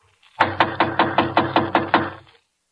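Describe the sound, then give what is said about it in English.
Someone raps on the partly open wooden door of apartment 5D about eight times in a quick, steady rhythm; the knocks are loud, each with a hollow resonance, and no one speaks. “Here, I'll knock again.”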